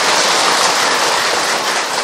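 A crowd at a Buddhist monk's dharma talk breaks into steady applause, a dense, loud wash of many hands clapping at once that holds its level for about two seconds, with no voices over it.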